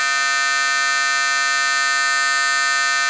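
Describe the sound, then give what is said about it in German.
An electronic foghorn sound effect, one of eight sounds stored in a truck sound module: one loud, steady, buzzy horn tone rich in harmonics, holding a constant pitch without a break for about three seconds, with no voices. “Dieser Sound kommt einem Nebelhorn gleich”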